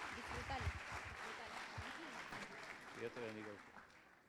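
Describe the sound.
A church crowd claps steadily for several seconds, welcoming the night's first preacher, a nine-year-old boy: a dense, even wash of applause, while voices call out and speak over it at moments.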